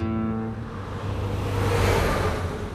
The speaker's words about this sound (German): Draußen rauschen unablässig Autos und Lkw vorbei. Drinnen ist es ganz still. Eine dünnwandige Glastür nur schottet den Altarraum vom Lärm der wenige Meter entfernten Autobahn ab.